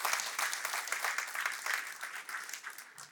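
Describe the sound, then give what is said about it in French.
An audience applauds God's perfect love that banishes fear, a dense crackle of many hands clapping at an even, fairly loud level for about three seconds with no voices over it. “Une bonne main d'applaudissement pour un amour qui bannit la crainte.”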